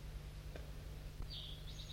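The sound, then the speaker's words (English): A crossbill perched in a tree above calls with a thin, high-pitched note that begins partway through and carries to the end, faint over a steady low hum, with a couple of soft ticks before it. It is calling back and forth with another crossbill. “There's another crossbill here.”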